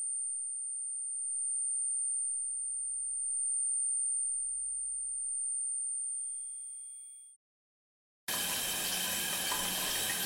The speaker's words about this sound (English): I have a hard time describing the sound I hear, mostly because I try not to listen to it too closely. But it's a bit like the static you would hear if you left an old TV on standby, a kind of high-pitched whistle.